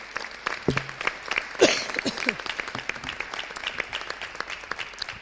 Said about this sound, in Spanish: Así que ya venimos haciéndolo durante algún tiempo, y esta mañana me gustaría nuevamente darle la bienvenida al presidente de la Federación de Peñas, para el que pido un aplauso.